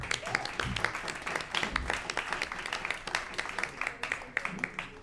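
An audience at a film presentation applauds to welcome the film's two directors, with dense, steady clapping for the full five seconds, sharp individual claps standing out against the wash of many hands, with a few faint murmurs mixed in.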